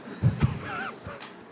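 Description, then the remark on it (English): A man's voice imitates a dog yelping after being hit by a thrown rock, giving a few quick, whining cries in a row, moderately loud, with no real animal heard. “But those same people, when they see a dog, they'll take a rock and go, hop, flip, and throw it, and the dog goes, wah, wah, wah.”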